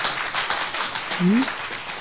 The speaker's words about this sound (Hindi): बजाओ अपने लिए ताली।